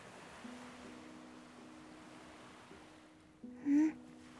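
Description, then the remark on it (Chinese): A steady, soft wash of ocean surf rolls continuously onto a sandy beach under moonlight in a dream scene, with faint sustained low tones underneath and a brief brighter tone rising near the end; no one speaks. “那等等，我需要把梦境里的海浪拟真度调得更高。”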